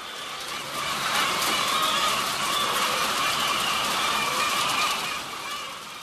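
A mass of chickens clucking, squawking and eating together, a dense, steady chorus that holds for several seconds at moderate loudness before easing slightly. No voices.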